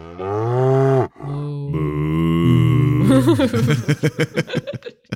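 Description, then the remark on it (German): A cow, tied to the Freaky Friday film franchise, moos loudly, two long drawn-out lows one after another, followed by a quick run of short, rhythmic chuckling bursts. “Also ja, wir vergeben von Wissen in die Kulissen Freaky Friday, beziehungsweise dem Freaky Friday Franchise, offiziell die Kuh.”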